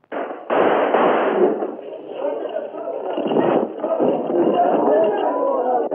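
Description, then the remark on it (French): A few sharp revolver shots, fired by a man at Laval, punch through a dense, agitated crowd under a porch as a procession moves, with many voices shouting and murmuring continuously throughout the muffled, noisy scene. “Un homme avec un revolver vient de tirer sur Laval.”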